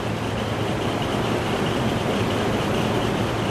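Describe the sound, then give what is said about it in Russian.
Heavy industrial machinery in a factory building hums in a steady, dense drone with a low rumbling undertone as equipment starts up after power is switched back on to the halted plant, holding an even, fairly loud level throughout, with no voices. “Загудело какое-то оборудование, что-то пришло в движение, и и сразу создалось ощущение того, что промышленный монстр ожил.”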